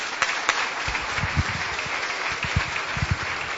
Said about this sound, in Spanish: Un aplauso para ella.